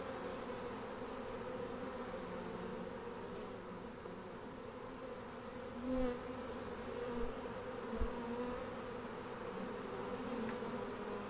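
A dense, steady hum of many honeybees buzzing around a hive, continuous, with a few soft bumps and louder passes breaking the drone now and then.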